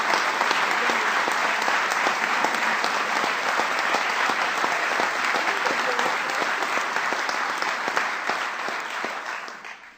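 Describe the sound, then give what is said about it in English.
A large audience applauds steadily for about ten seconds, a dense wash of clapping that stays loud throughout before tapering off slightly at the very end. “And so please give all of these legislators a big round of applause.”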